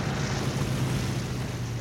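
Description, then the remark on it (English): A clipper seaplane settles onto the water in the Caribbean, its engine a steady low drone beneath a continuous loud rush of water and wind, with no voices. “The plane comes in to land on the water.”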